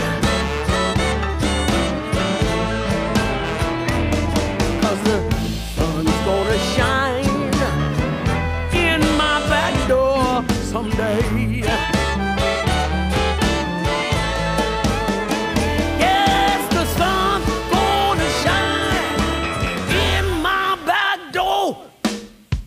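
A blues song sung by a woman, her strong, wavering voice carried over a full band accompaniment, staying loud and steady throughout before trailing off in the final seconds.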